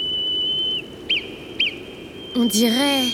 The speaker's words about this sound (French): Ce sifflement, c'est un code, c'est sûr. C'est un message pour moi.